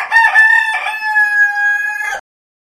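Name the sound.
rooster crowing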